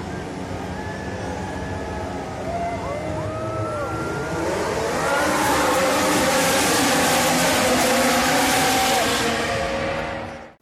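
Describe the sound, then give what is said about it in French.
A pack of Formula One race car engines roars together at the start of the 2019 Singapore Grand Prix, their whining pitches sweeping up and down as they accelerate, the dense din swelling louder midway and holding until it cuts off. “Alors, mesdames et messieurs, démarrez vos moteurs, c'est un départ.”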